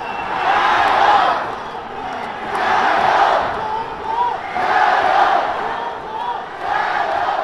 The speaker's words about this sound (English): You're hearing the crowds roaring, "Zhongguo jiayou," which you can literally translate as "China add oil" or "China add gas."